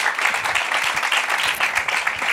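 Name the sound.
audience applause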